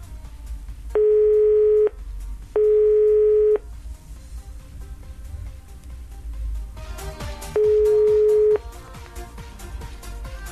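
A telephone busy signal heard while trying to call a service phone line: three flat, steady tones about a second each, the first two close together and the third after a longer gap, loud over a low, busy background.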